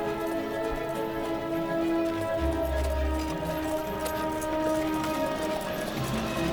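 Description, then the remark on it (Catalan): Horse hooves clip-clop at a steady, unhurried pace as a horse-drawn cart rolls along through a landscape of pine woods and olive groves between red-earth ravines, over a continuous backdrop of sustained tones. “El carro avança per un paisatge de pinedes i oliveres entre barrancs de terra roja.”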